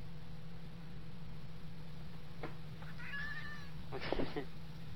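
A cat meows twice in quick succession, a thin, fairly quiet cry followed by a brief, harsher call, heard over a steady low electrical hum and background hiss.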